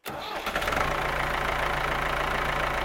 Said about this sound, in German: Jetzt haben wir schon ein Geräusch, was Victoria aufgedeckt hat. Der Traktor wurde schon gelöst.